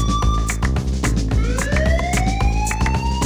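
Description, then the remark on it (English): A loud siren, added to a new dance music track, wails and climbs steadily in pitch, layered over a heavy, steady thumping beat that keeps pounding underneath the whole time. “Now give me a siren. Just give me a siren.”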